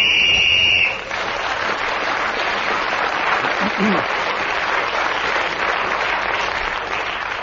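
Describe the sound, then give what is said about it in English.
On a panel game show, a steady, shrill whistle blows for about a second while Clement Freud is speaking, then cuts into a burst of sustained audience applause that carries on evenly to the end. “So Clement Freud speaking as a whistle.”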